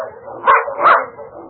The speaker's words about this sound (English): It's a dog team. Quiet, Snapper.